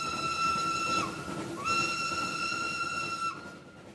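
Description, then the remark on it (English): A steam locomotive whistle sounds two loud, sustained blasts, a shorter one followed by a longer one, each dipping slightly at its end, over a steady background hiss of steam. “In 1883, the famous religious leader Te Kōti warned Māori to beware the whistling god of the Pākehā, a monster belching flames and smoke.”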